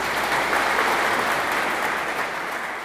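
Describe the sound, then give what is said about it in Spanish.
Sustained applause from the audience of the programme La Frontera welcoming guest el Morenus, a YouTube and Twitch content creator, a dense, steady patter of many hands clapping at an even loudness throughout, with no voices audible over it. “Un fuerte aplauso para el Morenus.”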